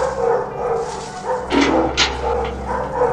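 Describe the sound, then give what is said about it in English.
A dog from the film The Plague Dogs barks and yelps in a few sharp bursts over a steady low background hum, with whimpery tones between the louder calls. “But in The Plague Dogs, two dogs escape from a lab and travel across the British countryside to find freedom.”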